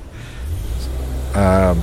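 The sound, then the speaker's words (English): A car engine rumbles low and steady outdoors in Chicago, then revs louder near the end with a rising, harmonic whine as a vehicle accelerates. “So I'll just listen to the cars.”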